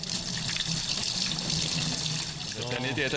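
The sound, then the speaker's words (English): A tap runs steadily into a sink as students wash their hands beneath the stream during a cheese-making hygiene lesson at a model-farm school in Thun, a continuous hiss of water, with a faint voice rising briefly near the end. “It's not as easy to wash your hands as it is here.”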